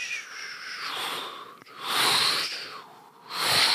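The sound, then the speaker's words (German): A voice imitates a steam iron with breathy, high hissing bursts — a long hiss, a short gap, then two more swelling hisses, fairly loud, with no speech. “Und wie geht denn das Geräusch vom Bügeleisen?”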